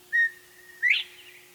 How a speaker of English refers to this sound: But most Northlanders have heard of Bob Whites, if only because their distinctive call gave them their name.